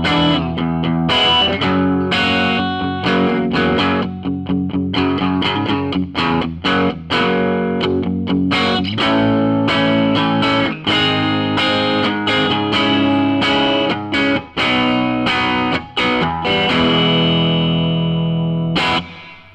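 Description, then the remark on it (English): A hollow-body electric guitar played with both pickups at once rings out with bright, chiming chords and quick picked notes, lightly overdriven and sustaining, played continuously and fairly loud with no voices over it. “Super chimes. Chimes, yeah. It's crazy. Chime for days.”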